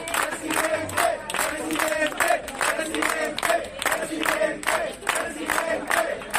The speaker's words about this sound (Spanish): Estos gritos son de ayer en la sede provincial.